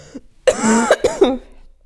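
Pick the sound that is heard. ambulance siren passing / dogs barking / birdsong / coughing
coughing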